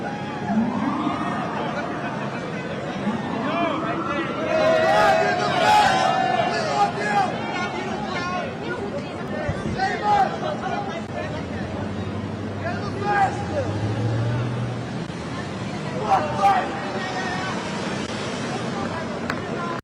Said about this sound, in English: That is Donald Trump leaving. You can hear people screaming, I love you. You can see big Trump signs. Donald Trump walked out.